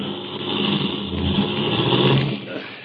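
A car engine rumbles steadily for a few seconds, then eases off and drops away as the car pulls up and stops to block the road, as it starts to rain. No voices.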